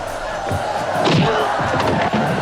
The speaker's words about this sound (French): Natsu Kao! Natsu Kao! La foule en délire commence à crier au nom de leur dieu blanc. Non, pardon, du guerrier blanc.